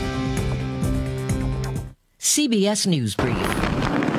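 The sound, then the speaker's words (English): A musical jingle and a brief announcer's voice give way to a loud, steady roar of rain and wind from Category 5 Hurricane Melissa threatening Jamaica, filling the last second. “That's the sound of rain and wind from a now Category 5 Hurricane Melissa threatening Jamaica.”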